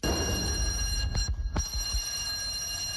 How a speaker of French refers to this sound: Cette sonnerie marque la fin des premières épreuves. Il est 10h15.